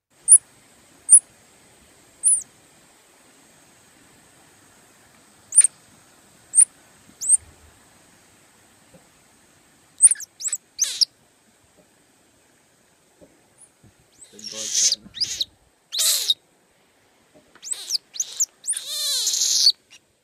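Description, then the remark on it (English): A saki monkey gives thin, high-pitched squeaks, spaced out at first, then a busier flurry of scratchy, breathy squeals, with no talking. “She's a monkey, a type called a Saki.”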